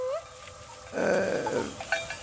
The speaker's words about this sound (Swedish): Det här är alltså kulning. Det gamla sättet som bondesamhället samlade ihop sina djur när de var på fäboden.